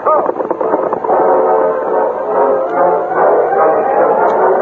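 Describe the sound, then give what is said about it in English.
A loud, steady howl of wind from a snowstorm blows without pause over bleak, snow-blanketed rangeland, its wavering moan rising and falling through the whole stretch like a gale. “The wind howled, and the snowstorm continued without let-up as the Lone Ranger, Tonto, Corey, and Baldwin rode over the bleak, snow-blanketed rangeland.”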